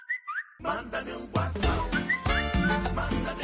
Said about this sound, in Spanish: ¿A qué te suena esta sintonía? La de nuestro WhatsApp.